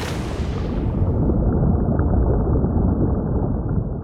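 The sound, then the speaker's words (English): A dense, muffled underwater ocean rumble fills the scene, low and continuous, with high frequencies quickly fading away as if sinking beneath the surface; no voices, just a steady submerged roar. “The sound of the ocean, both on the surface and below.”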